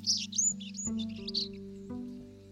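A sparrow sings a quick run of high, bright chirps and short trills for about a second and a half, over a low, steady musical drone that continues after the bird stops.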